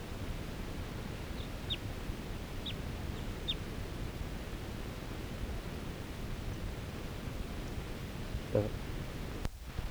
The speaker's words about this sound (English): A wild bird again. And I'm gonna try to get a shot at it. This is the same bird that was tooping before.